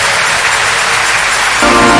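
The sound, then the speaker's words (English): An audience at a church Congress applauds the Lord loudly, a dense, steady wash of many hands clapping together that holds for the full two seconds and swells slightly toward the end, with no voices. “The rest of us, let's give the Lord a big round of applause for the first fruit of this Congress.”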